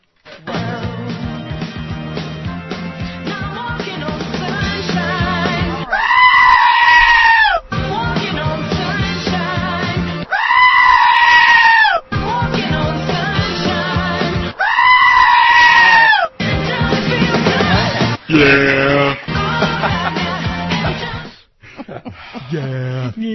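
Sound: goat bleating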